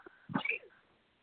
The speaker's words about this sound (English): Bless you. Bless you. And I never sneeze just once. You always get twice. I apologize.